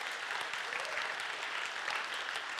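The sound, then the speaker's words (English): A church crowd applauds steadily, a dense patter of many hands clapping at an even level for a couple of seconds, with no voices standing out. “You can clap for that.”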